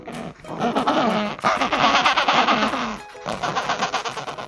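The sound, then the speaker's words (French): An Adélie penguin calls loudly with a harsh, raspy, braying voice in rapid rhythmic pulses, breaks off briefly, then starts again. No one speaks. “le cri que tu as entendu, c'est celui du manchot d'Adélie”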